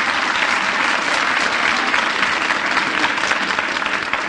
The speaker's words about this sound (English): Now, let's have a little applause here for Miff. How about it?